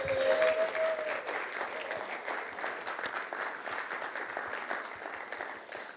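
A church audience applauds steadily for about six seconds as people come up to speak, a dense, even patter of many hands clapping, with a brief high cheer or whoop rising over it near the start.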